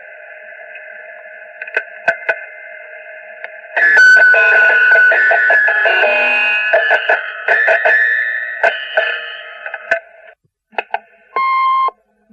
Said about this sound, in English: You have reached me. If you have a message for me, please leave it after the ding and the beep. Thank you.